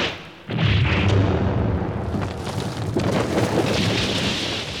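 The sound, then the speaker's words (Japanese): A landmine explosion bursts in suddenly after a brief quiet moment, then rumbles on as a loud, sustained roar of debris and noise for several seconds. “くる 地雷神。”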